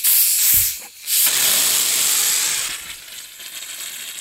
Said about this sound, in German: Kohlendioxid ist eigentlich ein ganz harmloses Gas. Es brennt nicht, es riecht nicht und es ist ungiftig. Jeder, der mal eine Sprudelflasche geöffnet hat, kennt es.